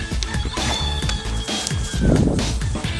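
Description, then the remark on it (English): A dog's plush rooster toy, her fourth one, clucks loudly, a busy run of rapid, squawky bursts and squeaky tones lasting the whole stretch, with no talking. “The story behind this rooster is, this is like her fourth one.”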